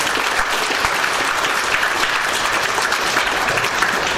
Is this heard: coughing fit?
no